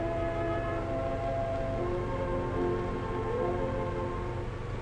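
A train rumbles steadily along the rails, with a dense low mechanical drone and faint tonal whine from the wheels, loud and continuous with no voices: a through freight or passenger train in Manchuria on the line linking Europe with the Far East.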